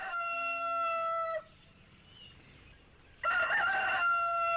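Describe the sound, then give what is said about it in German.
A rooster crows loudly, a long harmonic cock-a-doodle-doo, then after a brief pause a second strained, raspy crow follows. No one speaks. “Da schloss der Hahn die Augen, um sich ganz auf seine Stimme zu konzentrieren und besonders schön zu krähen.”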